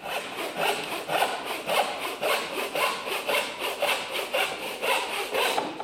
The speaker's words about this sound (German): Als das Loch groß genug war, führte er ein Sägeblatt ein und trennte die Diele in der Mitte in zwei Hälften.